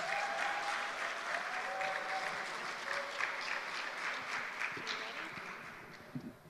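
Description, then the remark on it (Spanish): Steady, loud welcoming applause from a crowd at a women's gathering for a special guest, dense clapping filling the whole stretch without a break, with faint voices mixed in before it begins to thin slightly at the end. “¿Qué tal si le damos un aplauso de bienvenida bien colombiano?”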